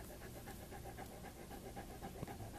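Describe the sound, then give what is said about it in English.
A big, friendly dog pants steadily, quick rhythmic breaths repeating evenly for a few seconds with no talking over it. “But Rondo likes many people. Don't you, Rondo?”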